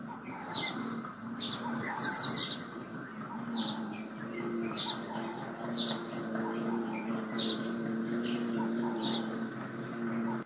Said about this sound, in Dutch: Nou, wat mij opviel, je hoort geen verkeer, maar je hoort wel vogeltjes en bijtjes. Een hele andere natuur.